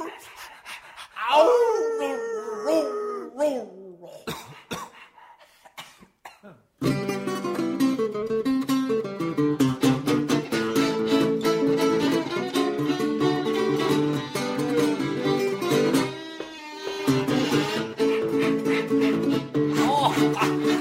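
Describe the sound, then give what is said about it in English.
A country blues song opens with a breathy, wordless solo vocal sliding between pitches, then a full band enters and carries a steady, loud groove with vocals riding on top. “une forme de country blues qui ne sera pas vraiment triste avec des vocalises magnifique”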